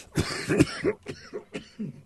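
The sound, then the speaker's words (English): A loud burst of coughing: several harsh, rapid coughs in quick succession, trailing off into a few softer throaty hacks, with no talking. “I get so excited about this, I always start to cough.”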